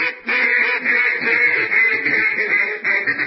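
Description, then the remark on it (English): A loud, nasal duck quacking blares almost nonstop for a few seconds as a skeptic duck alarm sound effect, the harsh calls running together like an alarm, with no talking. “And, of course, this means it's time for, I think, what's called a skepduck alarm.”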